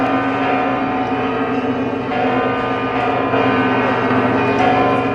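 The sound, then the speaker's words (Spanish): Church bells of Toledo Cathedral peal continuously from the tower, their overlapping ringing tones forming a dense, steady wash of sound with no voices, as Archbishop Francisco Cerro announces the appointment of a new auxiliary bishop of Toledo. “Con el repique de campanas de la catedral de fondo, el arzobispo don Francisco Cerro comunicaba esta noticia.”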